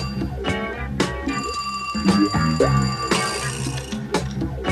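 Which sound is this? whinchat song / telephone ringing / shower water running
telephone ringing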